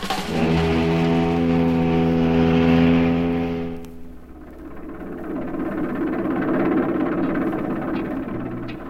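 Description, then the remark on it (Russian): A loud motorboat engine drones with a steady, tonal roar for about four seconds, then shifts to a rougher, rushing rumble that carries on to the end, as a small boat speeds across the harbour waters. No one speaks. “Шумев моторами, выпустив дымок, через акваторию мчится катерок.”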